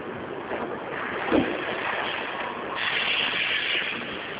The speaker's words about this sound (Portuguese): Tô vendo barulho de carro, você tá dirigindo? Sim.